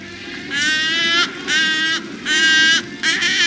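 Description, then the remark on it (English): Wood stork calls: four loud, nasal, honking bursts in close succession, each about half a second long, with a steady low rumble of background noise beneath them. “With their big bill, naked head, and long legs, wood storks look ungainly, almost ugly, but they are perfect at what they do.”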